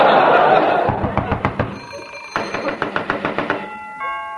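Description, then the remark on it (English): Two bursts of quick, sharp knocking on a door, each a rapid run of loud raps, followed by a brief ringing tone at the end; a man bringing a telegram for Lou Costello knocks, in an Abbott and Costello comedy routine. “Costello, is that somebody at the door?”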